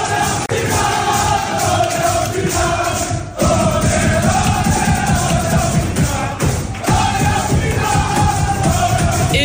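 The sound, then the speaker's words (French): PSG players shout and chant together in the PSG locker room after Paris qualified for the Champions League final, loud and unbroken, a thick wall of overlapping voices with a few brief dips before the roar surges again. “Et c'est sous ces cris-là que Jérôme Rotten rentre dans ce studio”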